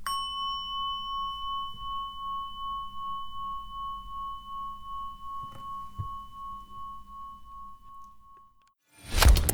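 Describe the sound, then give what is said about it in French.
A gong rings out to close a programme on Radio Alliance Plus, with a steady, sustained metallic tone that slowly decays over several seconds, fading away before a brief burst of noise at the very end. “Nous finissons avec le gong.”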